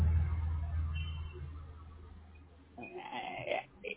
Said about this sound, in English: You're kind of hard to understand when you're standing on the side of the freeway and there's cars.